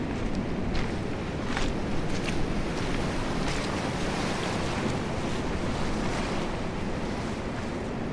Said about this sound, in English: It's such a glorious colour, isn't it? Deep green out there, and then blue coming in, and the white intersected by the white of those waves, breakers.